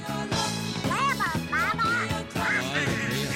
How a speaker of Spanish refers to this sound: Sí, está ahí el Pato Donald, tío. Claro, es que es la voz del Pato Donald.